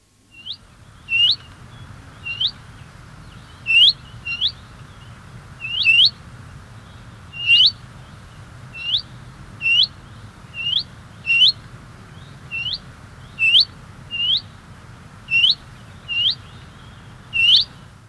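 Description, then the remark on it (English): A willow warbler repeats a soft, rising, nearly two-syllable 'wheat' call, about fourteen times at a steady pace, each clear, over a low background rumble with no voices. “The willow warbler and chiffchaff both call wheat, and can be difficult to distinguish. But the willow warbler is nearly disyllabic and perhaps slightly wistful.”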